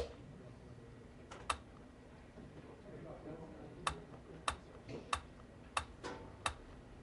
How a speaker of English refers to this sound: Play a little Tetris. Again, I'm doing all of this just by tapping on my arm. So the great thing about this is an input device that goes with me everywhere, unlike a keyboard or mouse, for example.